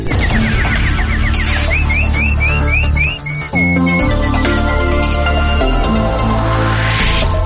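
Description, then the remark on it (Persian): A quick run of bright, nightingale chirps and trills repeats over a loud, busy music bed, introducing a Persian-language news summary, with a short dip midway before the music swells again. “اینک خلاصه خبرها با چهچهه همکارم بلبل.”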